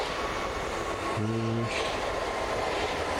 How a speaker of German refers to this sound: Ja, eine U-Bahn. Ist du eigentlich ein kurzer?